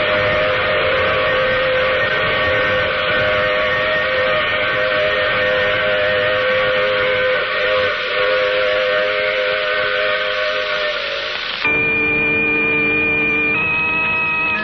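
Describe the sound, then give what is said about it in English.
A loud, sustained steam train whistle blows for several seconds in the radio drama The Mysterious Traveler, its chord of tones holding steady before shifting pitch twice near the end. No one speaks. “Oh, you'll have to get off here.”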